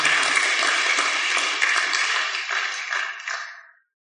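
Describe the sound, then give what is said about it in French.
An audience breaks into steady, dense applause, many hands clapping together at a fairly loud, even level for a few seconds before it cuts off abruptly. No one speaks over it. “Est-ce que nous pouvons applaudir le Seigneur que demain nous serons baptisés en esprit?”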